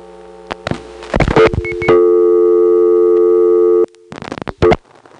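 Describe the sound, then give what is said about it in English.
A steady, droning electrical hum, the power noise of a telephone exchange second selector, holds for about two seconds, framed by bursts of sharp mechanical clicking and switching before and after, as 461 is dialed slowly on a rotary dial phone. “This is the power noise on a second selector.”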